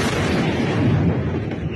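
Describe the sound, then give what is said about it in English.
A loud, sustained roar of missiles, explosions and drones in wartime Ukraine during Russia's full-scale invasion, dense and booming in the low end, filling the whole moment without a break. No voices are heard. “The sound of missiles, explosions, drones.”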